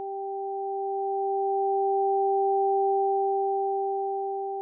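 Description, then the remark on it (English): Two pure electronic tones, one high and one low, hum steadily together over headphones for about five seconds at moderate volume, swelling slightly in the middle, with no voices or other sounds. “Did you hear the high and the low tones in the same ears?”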